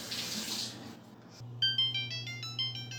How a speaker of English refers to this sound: Okay, well, there's the timer.